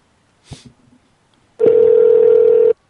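A brief handset click and faint rustle, then a loud, steady telephone tone sounds for about a second before cutting off sharply, like a call being placed. No one speaks.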